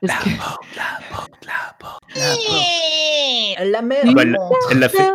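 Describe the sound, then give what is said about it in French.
A voice imitates a creaking door: a long, strained, whiny vocal squeal with dense harmonics, slowly bending in pitch, after a few breathy syllables, ending in wavering moans. “Est-ce que vous voulez m'entendre faire la porte, basiquement, en fait?”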